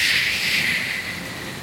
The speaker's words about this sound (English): We open on a torrential downpour, tumbling down from early morning skies. This heavy rain is tearing through the Washington wilderness, wind whipping through drenched evergreen, dim morning light fighting through these thick torrents of rain.